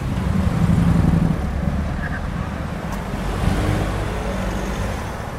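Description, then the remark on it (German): A steady, muffled roar of road traffic on the Wandsbeker Allee, low and continuous, with a faint swell of passing vehicles and a brief higher tone, heard from indoors through a closed window. “Dahinter das geschlossene Fenster, der bohrende Verkehrslärm der Wandsbeker Allee, auf der gegenüberliegenden Straßenseite der alte Wandsbeker Friedhof.”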